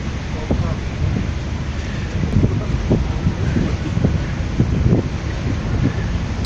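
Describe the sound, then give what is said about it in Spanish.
Steady wind roars and buffets over churning water, with a continuous low rumble and irregular gusty surges throughout, as on the open deck of a ferry crossing the Danube River to Romania. “A través de un ferry como este, como hemos hecho nosotros, muchos ucranianos consiguen cruzar cada día el río Danubio hasta Rumanía.”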